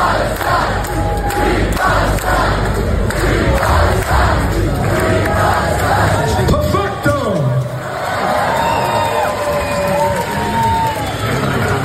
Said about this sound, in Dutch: Maar ze laten soms ook gewoon een heel publiek Free Palestine zingen. Zoals in Italië was dit.